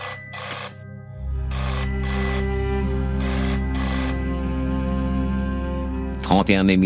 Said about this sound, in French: Le 31 mai 1972, Petenau, région du Frioul, à quelques kilomètres de la frontière yougoslave, caserne des carabiniers. Quand la sonnerie du téléphone retentit, c'est le brigadier Antonio Ferrari qui décroche.